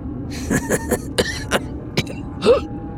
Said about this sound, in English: chuckled, but it turned into a cough and a wince.